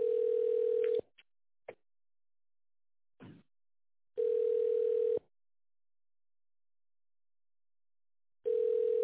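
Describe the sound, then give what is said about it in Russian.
A telephone ringback tone while on hold, waiting for an operator after calling the company Glavmostorg, an official dealer. A steady mid-pitched buzz in one-second bursts separated by long silent gaps, with a few faint clicks in between and no talking. “Оставайтесь на линии и дождитесь ответа оператора.”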